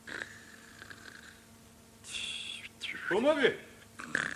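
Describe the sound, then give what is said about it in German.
Heavy, breathless panting in several ragged, noisy bursts, with some voiced, strained gasps mixed in, moderately loud, from someone lying in bed covered up to the nose and out of breath from running fast. “Und das heftige Schnaufen klang ganz und gar nicht nach Schlafen, sondern viel eher nach Atemlosigkeit vom schnellen Laufen.”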